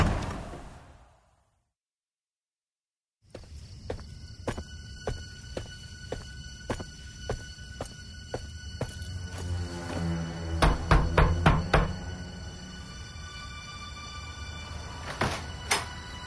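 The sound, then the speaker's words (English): After a brief silence, steady footsteps walk across a hard floor at an even pace, followed by a cluster of louder thuds and clatter as a door opens and shuts, as a man walks out the door in a scene from the drama You Don't Know Me. “Don't you walk out that door”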